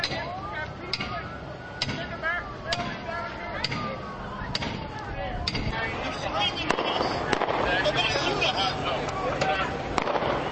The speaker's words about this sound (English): More gunshots. You guys hear that one? Yes. I can't even tell.